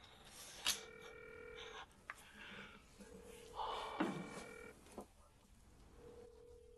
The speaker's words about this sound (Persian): ای بابا چرا گوشیشو جواب نمیده؟ جواب نمیده. نه جواب نمیده.